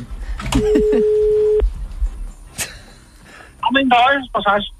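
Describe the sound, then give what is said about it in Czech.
A telephone line rings once with a steady, medium-pitched tone lasting about a second, heard over a handset amid brief dialing clicks during a call to a massage parlour, while people talk before and after it. “Dobře, tak jdeme telefonovat do masérny.”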